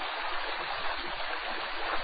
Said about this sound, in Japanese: このあたり、ビナ川の瀬音が耳に心地よく聞こえ